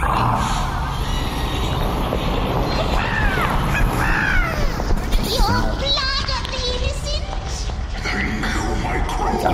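Several crows caw repeatedly, their harsh, overlapping calls tumbling over one another above a constant low rumbling background.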